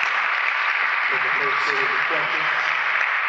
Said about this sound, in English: Come on, let's give your candidates a round of applause.